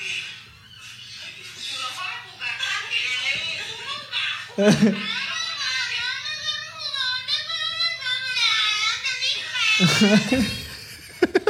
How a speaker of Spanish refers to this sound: Ah, está en TikTok. Está en TikTok. A ver, espera, te está cargando. Ok, espérame. El niño llorando.